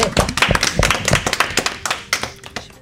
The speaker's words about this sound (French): Moi, je pense qu'on peut l'applaudir.